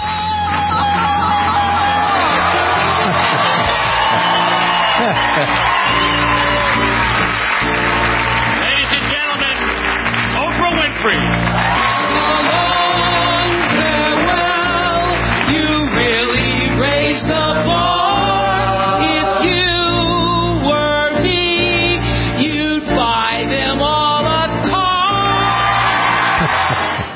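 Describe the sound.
Carol Burnett gives a loud, warbling Tarzan yell during an on-stage musical tribute for Jay's last show, over a dense, roaring audience that cheers and whoops throughout, the whole scene staying loud and busy from start to finish.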